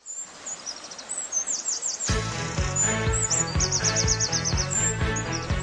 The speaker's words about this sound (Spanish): ¿Has visto cómo canta el chochín? Maravilloso. ¿Has visto qué cosita?